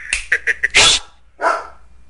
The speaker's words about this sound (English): Oh. Dog. Stop. Hey.